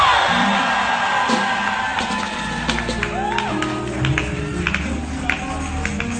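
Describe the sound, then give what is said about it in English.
A large church audience screams and cheers loudly for an amen, a dense wall of whoops and yells sustained throughout, with sharp individual shouts rising above the roar of the crowd. “Scream for that amen. Scream!”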